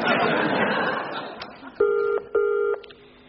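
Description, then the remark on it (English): A phone number is dialed: a second of rustling handling noise, then two clear, steady electronic keypad tones, each lasting under half a second with a short gap between them. “One quick phone call will clear this up, but I warn you, officer, I'm going to have serious words with your chief superintendent after this.”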